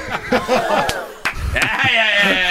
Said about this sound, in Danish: Okay, der bliver også klappet ude bagved. Det var noget, folk kunne lide.